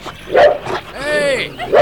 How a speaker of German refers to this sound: Haut ab, ihr dämlichen Köter.